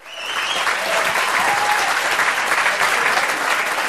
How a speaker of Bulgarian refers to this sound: Адмирации и аплодисменти за Рока от проектанти, дизайнери, потребители и клиенти. Дистрибутори също.